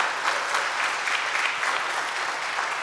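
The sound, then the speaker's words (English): An audience applauds steadily for a few seconds at Emmanuel's 175th anniversary celebration, a dense wash of many hands clapping at once, fairly loud, with no voices rising above it. “You can applaud you.”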